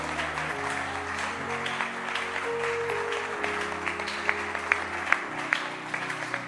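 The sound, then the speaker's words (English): A church audience claps hands for a girl holding something called 'Follow me', a steady, dense patter of applause lasting several seconds, with a few sharper, louder claps standing out near the end over a low sustained musical tone. “Clap your hands for her.”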